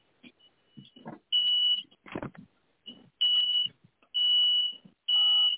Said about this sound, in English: Sounds like somebody's fire alarm going off. That was mine. But I'm opening up the windows.